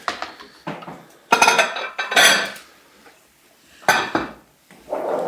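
Large plates clatter and clink as they are handled while grilling, in several bright bursts of clattering and scraping separated by short pauses, with no one speaking.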